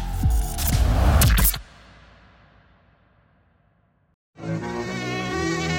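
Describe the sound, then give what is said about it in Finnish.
A dense, loud swarm of mosquitoes buzzes for a second and a half, then trails off into near silence before a steady, tonal hum starts again. “Kun haaveilet sä lämpöön pation, mut hyttys pilvi peittää auringon, niin vaihda hyttys vapaalle.”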